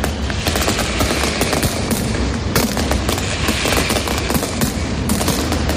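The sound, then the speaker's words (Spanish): A dense, continuous barrage of firecracker explosions from a mascletà pyrotechnic display crackles and booms in rapid succession, loud and relentless, with deep thuds beneath sharp overlapping bangs and no voices. “Hemos escuchado el principio con esos petardos, ahora escuchamos como, bueno, esos truenos, esos petardos.”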